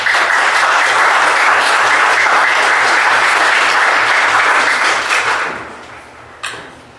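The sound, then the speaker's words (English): Loud, dense applause with slow clapping mixed in, holding steady for about five seconds before fading away, followed by one last sharp clap. No one speaks. “I was slow clapping you.”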